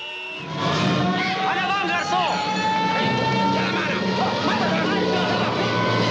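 A car moves along a busy street in Casablanca, its engine rumbling steadily beneath a dense, continuous wash of crowd chatter and street noise that stays loud throughout.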